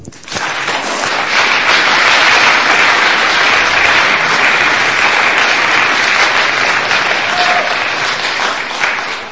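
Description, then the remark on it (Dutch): Sustained applause from an audience for two winners, a dense wash of many hands clapping at steady loudness for about nine seconds, full, with no speech over it. “Mag ik van jullie een applaus voor hun?”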